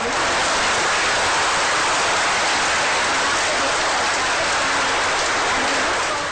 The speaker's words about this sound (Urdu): بھارتی سیٹلائٹ کے مریخی مدار میں پہنچنے پر بنگلور کا مشن کنٹرول سینٹر تالیوں سے گونج اٹھا.